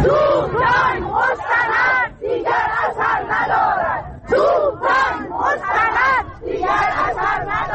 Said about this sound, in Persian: امروز در جریان تجمع بازنشستگان در مقابل وزارت تعاون کار و رفاه اجتماعی گروهی از تجمع کنندگان شعارهایی دادن، از جمله توپ تانک مستند دیگر اثر ندارد و شکنجه مستند دیگر اثر ندارد. اشارهشون به همون بحث برنامه طراحی سوخته است که شعارش رو میشنویم.